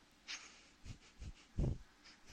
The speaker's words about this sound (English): Sniff, sniff, sniff. Sniff, sniff, sniff. Sniff, sniff, sniff, sniff.